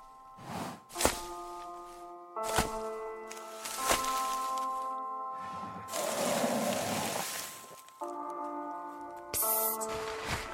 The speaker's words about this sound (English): The animal is stomping around our tent.